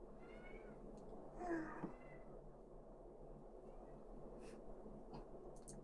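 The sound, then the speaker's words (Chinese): A person imitates a kitten with one short, high, wavering meow during a livestream, over a steady low background hiss, followed by a few faint clicks. “今天不是妈妈，今天是小猫咪。”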